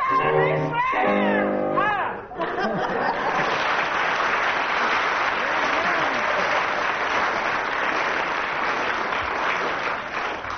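A short burst of loud, wavering vocalizing, a rendition of Rule Britannia, gives way to sustained audience applause, a dense, steady clatter of many hands clapping that continues strongly for about eight seconds, with a few shouts mixed in.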